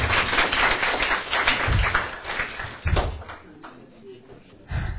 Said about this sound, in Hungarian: Szerintem egy tapsot megérdemel a technikusunk, úgyhogy